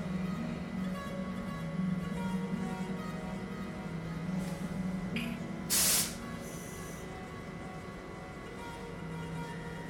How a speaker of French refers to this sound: À l'intersection des trois allées principales, la grande fontaine m'offre son glouglou rassurant.